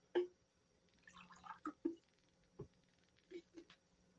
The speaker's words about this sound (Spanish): No deja de llamar la atención nuestro trago de agua final.